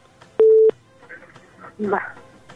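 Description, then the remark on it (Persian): A loud, steady telephone line tone sounds once for about a third of a second, followed by faint crackly line noise and a brief muffled burst of voice, as a caller's phone call disconnects by itself. “فکر میکنم خود به خود تلفنشان قطع شد.”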